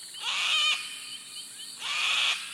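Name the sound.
sulfur-crested cockatoo call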